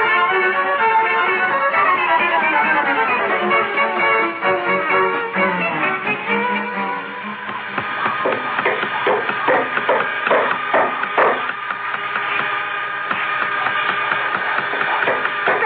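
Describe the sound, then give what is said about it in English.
A busy din in Santa Claus' workshop: a dense, tonal clatter gives way to rapid, irregular hammer taps and knocks layered over a steady ringing background, loud and continuous throughout. “Oh, close the door to the workshop, please. I can't hear myself think.”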